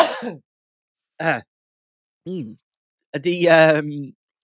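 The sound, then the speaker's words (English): Three short, separate coughs spaced about a second apart, followed by a longer, rougher throat-clearing rasp, all fairly loud, with no talking. “And I need to cough 1 minute.”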